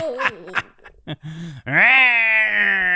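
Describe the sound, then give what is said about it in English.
A person imitates a falling cat: a few short, strained vocal sounds, then a loud, drawn-out yowling wail that rises and holds steady. “Do a voice like a falling cat.”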